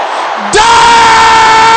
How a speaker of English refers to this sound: Can I hear the brothers shouting the same thing? Is that the loudest the brothers can shout it?